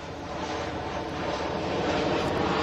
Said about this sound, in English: You will hear during this cross some planes flying over cross, but perhaps apt given how the Kiwi rowers took off down that rowing course today